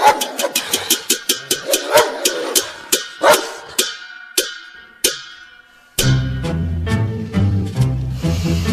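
A dog barks repeatedly in a rapid, sharp series of yaps, loud and steady, then a low engine rumble starts up underneath the continuing barks.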